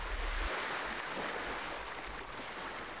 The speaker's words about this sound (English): As the sound of waves hit his ears, realization struck him. He was on a slave ship.